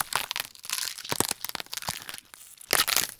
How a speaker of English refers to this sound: Sound designers don't actually break their bones or someone else's just for the sake of their craft. Snapping celery and other crunchy vegetables are classic tools for these gory sounds.